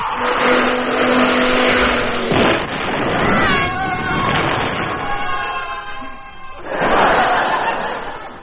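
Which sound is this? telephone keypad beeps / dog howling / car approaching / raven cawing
car approaching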